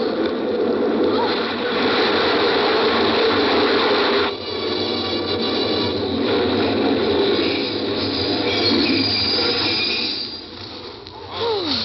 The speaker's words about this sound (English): Oh, the train was in.